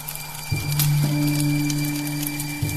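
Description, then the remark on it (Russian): Soft, continuous rustling patter, like light rain or twigs crackling in a fire, with scattered tiny snaps over a steady low droning hum; no one speaks. “И мой слух уже слышит это то ли шелест дождя, то ли потрескивание горящих веток.”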